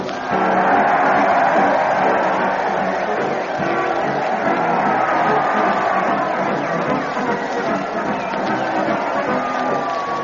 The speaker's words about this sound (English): That crowd, they're cheering madly as they march along with Fred Allen and his parade to the old town hall. Fred zigzagging up the street, the band sags where Fred sings, and the Mighty Allen Art Players are trailing behind in their kiddie cars.